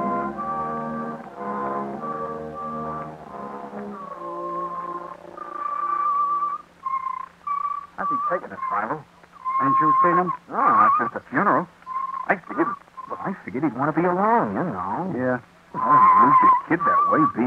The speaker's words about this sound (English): where's that fire engine going? I don't know.